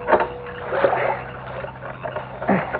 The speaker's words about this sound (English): he found himself poling through mats of water lilies toward a willow tree that hung over the bank